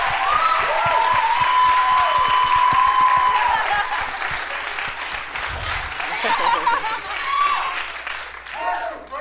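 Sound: audience clapping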